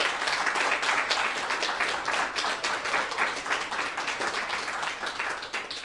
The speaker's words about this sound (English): Come up here, musicians. Let's give Elder Glatt another round of applause.